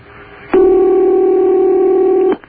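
telephone ringing

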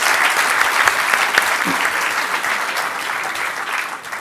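round of applause

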